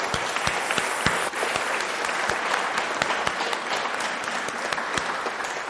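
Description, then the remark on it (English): A crowd claps steadily and loudly for several seconds, a dense wash of overlapping hand claps with sharper individual claps popping out, without any voices. “we love you and give you a wonderful round of applause.”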